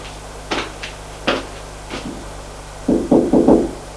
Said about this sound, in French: Il monte jusqu'au 2e étage. Arrivé au 2e étage, il a frappé à la porte de droite.